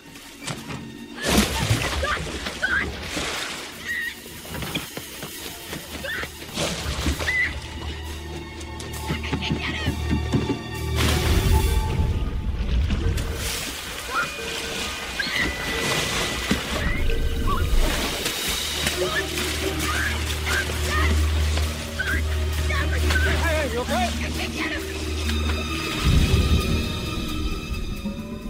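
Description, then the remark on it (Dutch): Water splashes and sloshes heavily as a man dives into a lake to rescue his son trapped under a capsized boat, with churning, turbulent movement continuing throughout amid a low rumbling background and indistinct voices. “Mac loopt zo hard dat hij kan en duikt onmiddellijk het meer in om zijn zoon te redden.”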